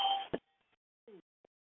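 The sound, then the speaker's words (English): Quiet electronic chimes: a short steady two-toned beep cut off by a sharp click, then a brief downward-sliding blip and a tiny final ping, with no voices. “you can mute the chimes now, okay?”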